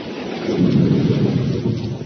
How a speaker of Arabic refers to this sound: أوه صوت الرعد مخيف لكنه يأتي بالخير بالمطر